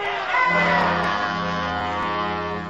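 An agitated crowd shouts and roars together in a loud, sustained wall of raised voices, with no single speaker standing out from the din.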